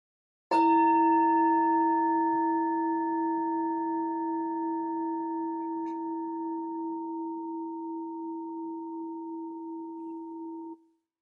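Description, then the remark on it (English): A meditation bell is struck once, and its steady, mellow tone with layered overtones rings for about ten seconds, slowly fading before stopping abruptly. No one speaks. “listening to the sound of the bell to the very last trace of sound.”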